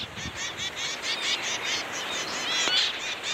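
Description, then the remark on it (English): A rapid series of short, nasal, honking chirps from male zebra finches, tiny Australian songbirds, repeating steadily, with several birds calling over one another and no voices. “Andrews in Scotland studied male zebra finches, tiny Australian songbirds with smoky gray heads, stubby red beaks, orange cheeks, and black and white tails.”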